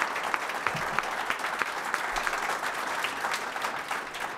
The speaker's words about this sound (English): Can we have a round of applause, please, for our panellists?